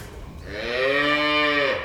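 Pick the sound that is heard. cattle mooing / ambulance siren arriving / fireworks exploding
cattle mooing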